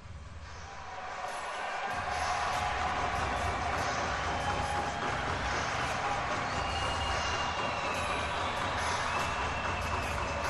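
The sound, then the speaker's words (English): A stadium crowd in Kigali at an NBA Basketball Africa League game bangs pots and pans, a dense, loud, continuous clattering din that swells up over the first two seconds and then holds steady with no clear individual beats. “You can hear the I can feel the pots and the pans being hit.”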